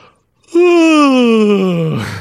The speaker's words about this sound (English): That is a haven't we been here before yawn.